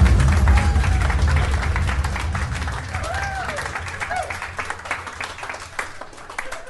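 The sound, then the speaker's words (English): A round of applause at the end of a report: dense, steady clapping from a group, loud at first and gradually thinning, with a few whistles and cheers rising over it. “Round of applause!”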